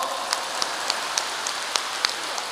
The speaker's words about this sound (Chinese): 鼓掌。